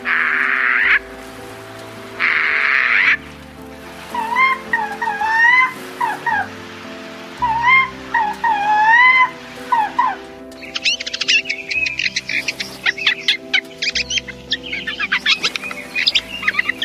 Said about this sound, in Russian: Яркая отличительная черта сойки, голос которой вы сейчас слышите, голубые перья на крыльях.